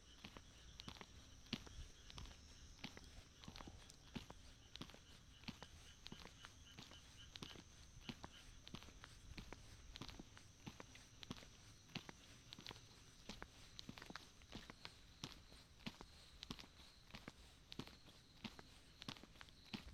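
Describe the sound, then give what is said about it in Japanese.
Steady footsteps on a hard concrete surface, each step a crisp tap in an even walking rhythm that continues throughout, with no voices. “コンクリートの上を歩くときに足音を楽しんでみませんか？”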